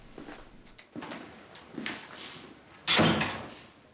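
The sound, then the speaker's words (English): A few soft handle rattles and clicks, then a motorhome door bangs open with a loud thump that fades away as someone steps inside. No one speaks. “In his motorhome, Luke's working his way through a pile of patient files when the door opens and Eddie steps inside.”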